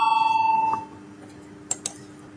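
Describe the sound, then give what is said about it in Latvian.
A chamber bell in the Saeima, Latvia's parliament, is rung before a vote on a deputy's proposal. It rings with a steady, bright electronic tone for under a second, then cuts off into quiet, and two soft clicks follow. “Paldies, lūdzu zvanu.”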